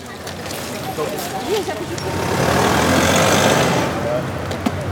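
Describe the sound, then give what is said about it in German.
Street traffic of cars driving past outside a primary school in Leipzig rumbles past, a car swelling into a broad whoosh midway before fading, with a steady background hum and faint voices and chatter mixed in. “Weil hier permanent Autos langfahren und selbst als erwachsene Person fällt es mir schwer, hier einen Überblick zu behalten.”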